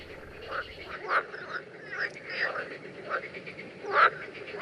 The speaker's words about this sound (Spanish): Bueno, esta que es la normal. Sí, aquí oímos la rana común y luego también podemos apreciar que está en época de celo.